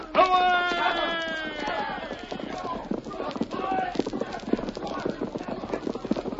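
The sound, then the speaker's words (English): A horse whinnies loudly at the start, then hooves break into a fast, steady gallop, a rapid drumming of clip-clops that keeps going to the end. “Get on your horse, Tonto.”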